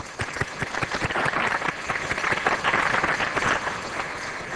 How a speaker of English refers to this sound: Let's give them a big applause.